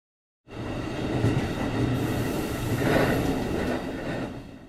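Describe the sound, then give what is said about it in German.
A train rolls along the rails with a steady rumble and rattle, starting abruptly after a moment of silence and staying loud throughout, with a faint metallic squeal rising midway. “Gott sei Dank habe ich den Zug noch rechtzeitig erreicht.”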